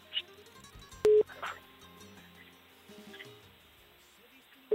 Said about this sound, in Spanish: Estamos marcando. Bueno, a ver. Si no se nos cae el teléfono al suelo, estamos marcando.